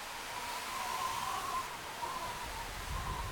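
A crank-turned wind machine makes a steady, rushing whoosh with a faint, wavering whistle that rises and falls, imitating the long-drawn howling of wind. Its supports are braced with two struts resting on shoe soles. Moderately loud, heard alone without voices.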